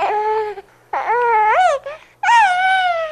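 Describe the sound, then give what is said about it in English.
A baby cries in three loud wailing bursts with brief gaps between them, each cry rising and falling in pitch. No one speaks. “Yeah, babies.”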